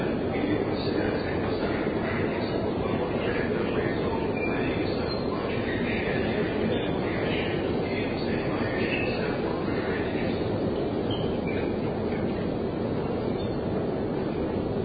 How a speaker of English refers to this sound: I was just mentioning how these escalator rides seem to be as long as the actual train rides.